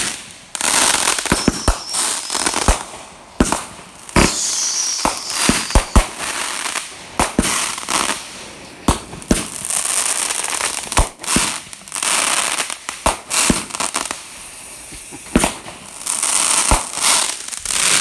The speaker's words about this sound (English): Now that sound right there, you can hear the fireworks right over our head as they kind of spread out, go different directions. That's right in front of us. That's them exploding in the air.